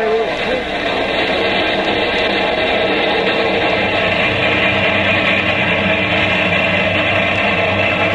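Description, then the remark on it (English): A locomotive whistle, blown by the train's engineer as a signal, sounds in one long, steady, loud blast lasting several seconds, its layered tones held over a dense rumbling background. “You whistle for me”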